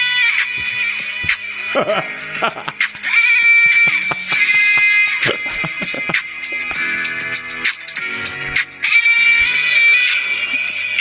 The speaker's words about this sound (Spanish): Es que eso hoy no se puede cantar, ¿eh? Le ponen el autotune y se convierte en una cabra.